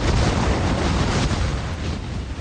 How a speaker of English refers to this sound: The sound of Ida coming ashore in New Orleans. It made landfall in Louisiana as a Category 4 storm in August